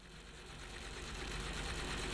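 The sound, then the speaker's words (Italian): A motor barge engine putters steadily with a low, throbbing chug as the barge leaves Venice across the lagoon, holding a continuous rhythm and growing slightly louder over a couple of seconds, with no voices. “Col motore che scoppiettava allegro, il barcone a motore si allontanava da Venezia per raggiungere qualche angolino nascosto in mezzo alla laguna,”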